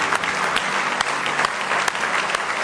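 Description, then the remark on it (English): An audience at a morning church service breaks into sustained applause of praise, many hands clapping in a dense, steady wash of bright noise with a few sharper claps standing out, and no voices heard over it. “Why don't you give him a big hand clap of praise in the house of the Lord this morning?”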